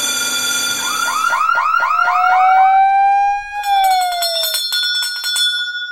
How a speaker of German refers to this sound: Die Alarmglocken läuten, bei jedem Institut tönt es aber ein bisschen anders.